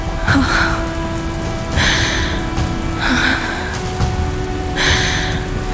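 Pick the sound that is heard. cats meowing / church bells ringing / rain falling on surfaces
rain falling on surfaces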